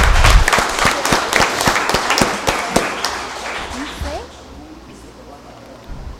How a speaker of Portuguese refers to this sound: Salva de palmas aí, meu.